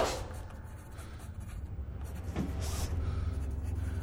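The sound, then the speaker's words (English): A pen scratches across paper in short strokes, set against a steady low engine rumble like the inside of a moving car. “Why don't you put the paper away”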